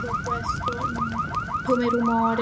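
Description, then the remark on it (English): A factory smoke alarm wails during a fire at the plant, a rapid, repeating warbling siren tone, steady and insistent over a low rumbling background, with no voices. “I remember in the background the sound of sirens, because we had a smoke alarm in the facility, in the plant. Of course, the alarm started going off like crazy all night long, so I remember this noise.”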